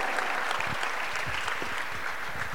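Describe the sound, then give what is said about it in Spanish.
An audience applauds the message that everyone's problem was resolved by Christ on the cross, a dense, steady wash of clapping that holds at an even volume for the whole stretch, with no voices standing out above it. “Alguien tiene que aplaudir a eso.”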